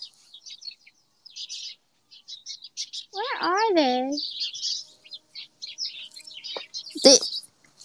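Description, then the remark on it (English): A busy chorus of many sparrows in a single tree chirps constantly, with dense overlapping tweets throughout. Midway, a person briefly speaks over the birdsong, and a short sharp sound rises near the end. “Oh, the sparrows? Or just the sand of sparrows?”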